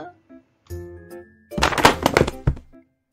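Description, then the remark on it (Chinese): A snack shelf is knocked over by someone rushing out in a panic: a loud, jumbled burst of clattering and thudding that ends with a couple of sharp knocks. A brief tonal, wavering sound comes just before it. “慌慌张张，好惊嘅阿伴撞跌咗零食架。”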